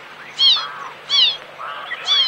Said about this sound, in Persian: چی میگی هی جیک جیک میکنی؟ اینقدر جیک جیک نکن دیگه، آروم بگیر. گشنته؟ بیا دون بخور.